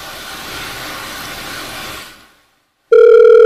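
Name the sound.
dial tone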